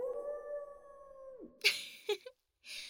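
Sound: wolf howl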